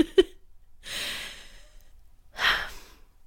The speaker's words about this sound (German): Und jetzt atmen wir alle einmal tief durch.